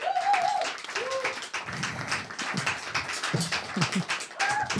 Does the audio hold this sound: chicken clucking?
no